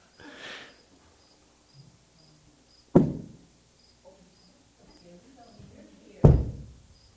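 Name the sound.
cricket chirping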